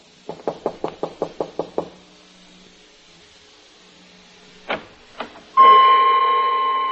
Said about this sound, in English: Ali Faid hadn't answered my knock, and now I knew why.